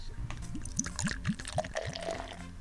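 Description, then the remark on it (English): Beer glugs steadily from a bottle into a glass on the underground, a quick run of rising gurgles about four per second, moderately loud, with a faint fizzy splash toward the end. “Let me pour some in my glass here.”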